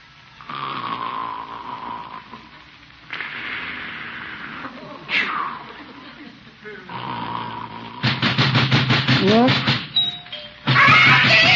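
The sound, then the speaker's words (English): A doorbell rings loudly in a rapid run of buzzing pulses near the end, after a stretch of slow, heavy, snore-like breathing sounds. “Why is he ringing the doorbell?”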